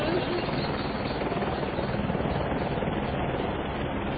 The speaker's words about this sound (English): kicked up by the downward descent of the helicopter.